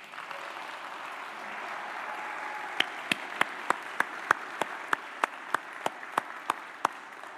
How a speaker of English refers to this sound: I didn't know if Presbyterians clapped or not, but thank you for doing that.